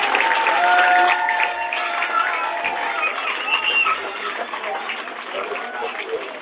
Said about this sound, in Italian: la salutiamo con un applauso, una grande amica.